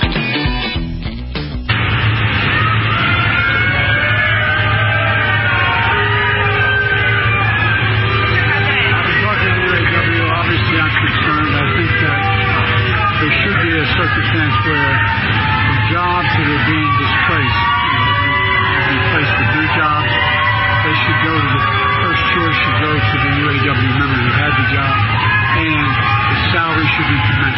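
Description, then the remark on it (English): A large crowd in Lake Tahoe boos Joe Biden as he gets out of his motorcade, loudly and continuously for nearly half a minute, a dense roar of low drawn-out jeers mixed with scattered yells and shouts that never lets up. “He was literally getting out of the motorcade, and he gets booed.”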